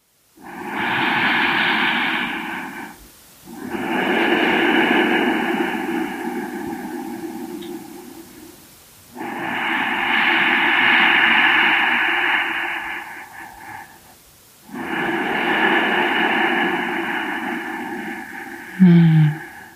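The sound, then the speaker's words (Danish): Slow, steady breathing: four long, airy breaths, inhaling and exhaling in turn, each lasting several seconds with brief pauses between. The rhythm is even and unhurried, with no talking. “Giv dig tid til at lytte til hele indåndingen og hele udåndingen.”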